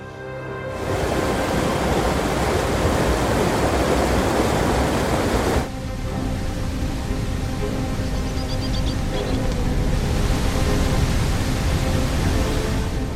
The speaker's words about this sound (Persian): همین که بادخورک‌ها رو به پرواز می‌کنند، آب اضافه پشت سد با تمام قدرت رها می‌شود.